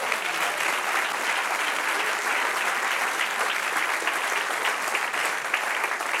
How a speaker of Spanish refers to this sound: Dele un aplauso al que vive.